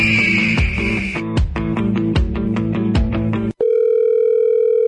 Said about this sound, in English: Why are you not picking up my phone?